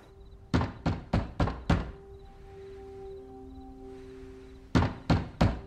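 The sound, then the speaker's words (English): Knocking on a door at night, at 11:57, in two firm bursts, five quick raps, a pause filled with a faint steady hum, then four more raps. Fairly loud, with no voices. “She slowly wakes. It's 11:57. I needed to see you tonight. It's Philip at the door.”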